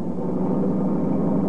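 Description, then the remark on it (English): A fast-moving car roars past at night, its engine and road noise a steady, loud rumble that holds constant throughout, with no voices. “Well, company coming. Seems to be travelling at quite a rate. Too fast, even this time of night.”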